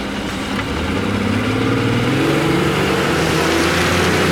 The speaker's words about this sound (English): The boat speeds off down the canal.